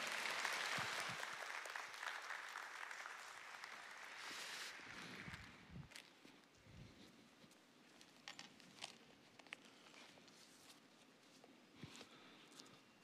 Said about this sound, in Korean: 큰 은혜 받으시고 우리 선교사님을 보내주신 하나님 또 선교사님 격려하고 또 사랑하고 축복하는 마음으로 큰 박수로 맞이하도록 하겠습니다.